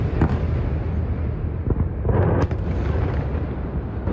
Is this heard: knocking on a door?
no